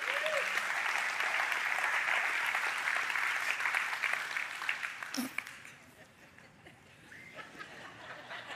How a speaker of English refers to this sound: Some of you clap, but there's some of you that are like, man, I hate that guy.